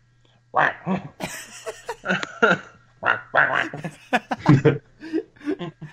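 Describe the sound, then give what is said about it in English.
A person imitates a duck with a series of nasal, choppy quacks in quick irregular bursts, fairly loud, with chuckling mixed in. “duck impressions forever, please.”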